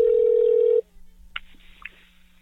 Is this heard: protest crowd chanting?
no